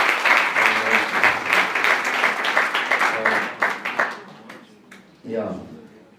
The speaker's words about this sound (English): So, once again, an applause for the gospel singers.